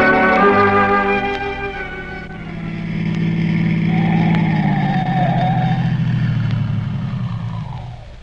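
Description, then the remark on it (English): A car engine hums steadily as the vehicle drives along, its low rumble steady and loud before winding down as the car slows and comes to a stop at a spot with no house in sight. “Stopping the car here, Dr.”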